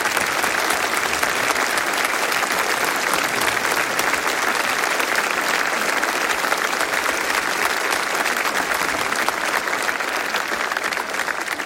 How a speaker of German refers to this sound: Aber großer Applaus für Musik und für unsere Techniker.